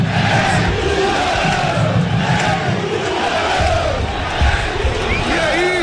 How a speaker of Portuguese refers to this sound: E o torcedor reconhece, sente o grito da torcida do Londrina.